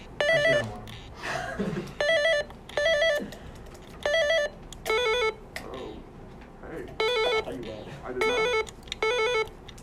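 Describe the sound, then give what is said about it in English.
Quiz game buzzers being tested go off in about ten short, bright electronic beeps at two slightly different pitches, sounding in quick succession while people chatter and laugh between them. “Can we do buzzer time?”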